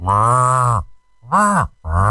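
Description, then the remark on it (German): A human voice imitates a cow moose's mating call with three loud, low, nasal groaning bursts; the middle one bends upward and falls back in pitch. “Und dann ging das schon los mit dem Elchkuh-Lockruf.”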